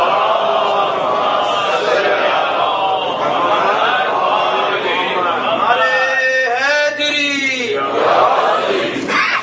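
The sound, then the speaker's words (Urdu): A large audience recites salawat, a devotional blessing on Muhammad, together in unison, a loud, dense wall of voices that holds steady, then rises and falls in a drawn-out chanted phrase near the end. “صلوات پڑھ دیئے محمد والے.”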